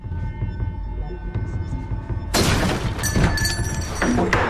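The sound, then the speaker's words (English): A man kicks in the front door of a house: after a low, steady hum, a sudden loud crash bursts out, followed by splintering clatter and a couple of sharp bangs as debris settles. “Stan, meanwhile, kicks in the front door of Ahmed's house.”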